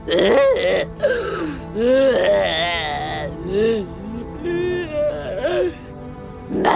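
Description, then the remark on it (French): A voice imitates a dinosaur whimpering and crying: a fairly loud run of wavering, sliding whines and sobs, broken into several short bursts over about seven seconds. “Ça, les enfants, c'est un dinosaure qui pleure.”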